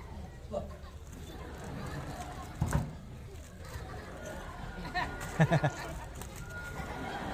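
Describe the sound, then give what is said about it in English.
A pet bird flutters: one brief burst of wing flapping, then three quick flaps a few seconds later, with faint calls over a low, steady background hum. “All that are completely out of control like this bird.”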